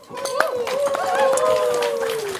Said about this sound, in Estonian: tahan tõstatada... tähelepanu asjaolule, et meil on olnud 2 juhendajat, kes meid sellel aastal viisid laulupeole. Aplaus!